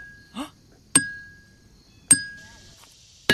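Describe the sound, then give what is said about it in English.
A hammer strikes rock three times at slow, even intervals on the Felsenmeer, a field of stones surrounded by forest. Each sharp, loud crack leaves a clear, high, bell-like ring that lingers briefly. A short vocal sound comes just before the first blow. “So we pulled out our hammers and started hitting rocks.”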